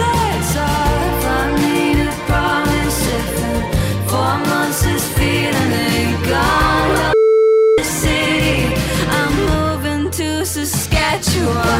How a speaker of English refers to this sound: What are we bleeping there? Is it like the F word? Yeah. Is it the F word? It is the F word, yeah.